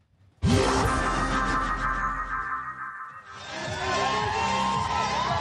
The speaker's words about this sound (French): Des cris digne de groupies. Ce jour-là, à Marseille, 7000 personnes se sont donné rendez-vous pour assister à un meeting du RN.